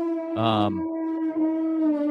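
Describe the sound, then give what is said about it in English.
A brassy, elephant-like trumpeting blast bursts out for under half a second, then settles into a steady, high-pitched tone that holds through to the end. “Do you have an elephant in the backyard?”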